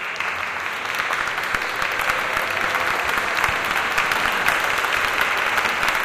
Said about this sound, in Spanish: Al acabar, sonó incluso una salva de aplausos.